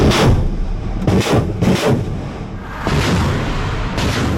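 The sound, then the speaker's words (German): Repeated heavy booms of Russian artillery and rocket launcher fire in eastern Ukraine, several blasts in quick succession over a continuous rumbling din, loud, with no voices. “Nämlich mit immer neuen russischen Angriffen. Nicht nur, aber weiter mit Schwerpunkt im Osten der Ukraine. Mit Raketenwerfern, mit Kanonen”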